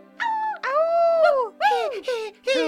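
A dog howls in a series of wavering cries, one long arching howl followed by several shorter yowls that rise and fall in pitch, with a faint steady hum beneath.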